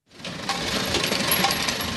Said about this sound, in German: Es ist laut in der großen Werkshalle. Die Pressmaschinen rattern und brummen. Arbeiter in Overalls stehen daneben und kontrollieren die ausgeworfenen Metallteile.